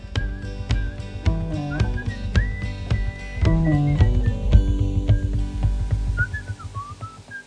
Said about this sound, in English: on …, they do the whistling refrain, and they fade out before it comes to a stop